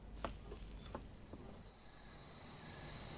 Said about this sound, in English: Listen. Listen to the sound of the crickets, singing the song of summer's ending, spreading the rumor of sadness and change. Everybody heard the song of the crickets.